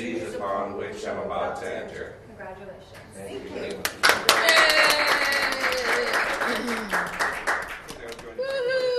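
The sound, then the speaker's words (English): A crowd breaks into applause and cheering partway through, dense clapping and whoops swelling up after a stretch of speech in which an oath of office is taken, loud, then tapering as a voice returns near the end. “That's the crowd.”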